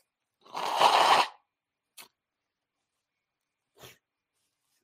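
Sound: nose blowing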